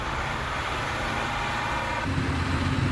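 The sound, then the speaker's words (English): A tow truck engine runs steadily as it takes a Chevrolet away, a continuous low rumble with a droning hum whose pitch shifts partway through, as if the revs change. No one speaks. “The Chevrolet is taken away on a tow truck.”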